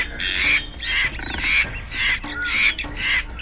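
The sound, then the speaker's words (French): A large bird flapping its wings to escape a pursuer swimming in the water near an old bridge squawks harshly and repeatedly, five or six loud, raspy calls in quick succession with a frantic, agitated feel. No one speaks. “Elle lève les yeux et elle voit un grand oiseau qui bat des ailes pour échapper à un poursuivant.”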